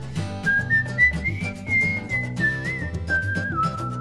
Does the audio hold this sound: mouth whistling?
yes